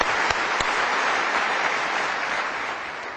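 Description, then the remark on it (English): An audience applauds Jesus in a dense, steady wash of clapping that stays loud throughout, tapering slightly toward the end, with no voices over it. “Let us give our applause to Jesus.”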